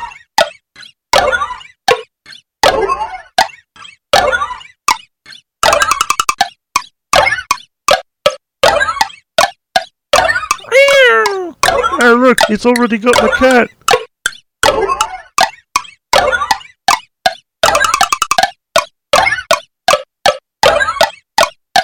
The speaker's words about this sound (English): I like the way the plastic guy dives into the wash tub.